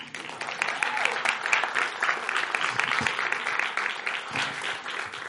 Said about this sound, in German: Und ich würde sagen, begrüßen mit Applaus